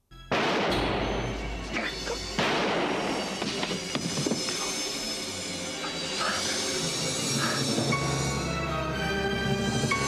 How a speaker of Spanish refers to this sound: Y sí, son unos disparos. Unos disparos que al menos aquí en nuestro país, en España, nos dejaron todo un verano, ¿vale?